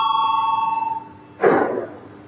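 parliamentary voting bell ringing

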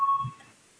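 parliamentary voting bell signal

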